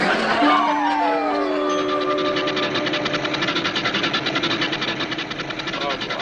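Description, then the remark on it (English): A bus engine idles with a steady, rattling rumble and fast rhythmic chugging, while a whining tone slides downward in pitch during the first couple of seconds. “Stop! Stop the bus!”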